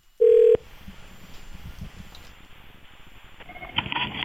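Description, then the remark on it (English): A telephone call being placed: a short loud tone, a stretch of hissing line noise, then a warbling ring starting near the end. No one speaks. “Okay, let's get her on the line.”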